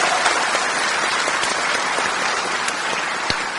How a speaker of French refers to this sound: Applaudissons-le, cet Esprit Saint qui est là au milieu de nous.